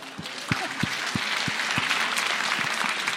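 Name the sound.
applause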